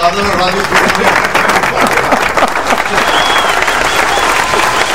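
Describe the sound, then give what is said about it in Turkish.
An applause sound effect played on the Radyoaktif radio show to welcome a studio guest: dense, steady crowd applause, loud and continuous for the whole stretch, with a few voices and whoops mixed into the clapping. “Ya, burada bir alkış bir şey olur.”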